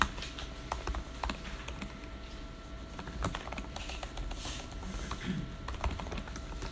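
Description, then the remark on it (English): Steady, irregular keyboard typing with many quick clicks and taps, moderately loud, over a low background hum, with no one speaking. “People, but now there's people typing in, so that's a really thing.”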